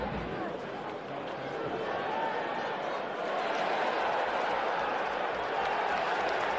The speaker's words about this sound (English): Well, they heard all that cheering, so that's great play-by-play by the commentator right there.